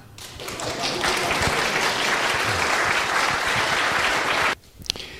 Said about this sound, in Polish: To jest pozdrowienie, którym Ojciec Święty Jan Paweł II zwrócił się do obecnych w rzymskiej synagodze 40 lat temu. Drodzy przyjaciele i bracia, Żydzi i chrześcijanie. On dostał wtedy duże brawa.